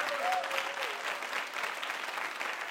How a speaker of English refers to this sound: Come on, get a little hand clap, please.